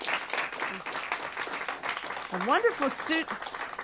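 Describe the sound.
A studio audience applauds steadily, many hands clapping in a dense, continuous patter, while a voice briefly rises above the clapping partway through.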